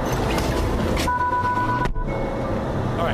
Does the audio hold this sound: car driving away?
yes